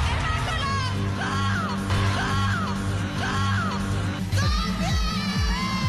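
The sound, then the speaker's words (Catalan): A group of women, pageant contestants, shout their country names and their own names excitedly over one another, loud and overlapping, with repeated rising yells for about six seconds above a steady low rumble of background noise. “I en aquest cas, doncs, sortien totes cridant al país i fins i tot el seu nom.”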